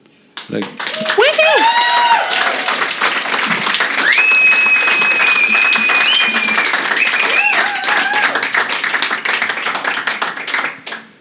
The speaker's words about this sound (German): Aber du hast wie genau hier auch ziemlich viel Applaus dafür bekommen.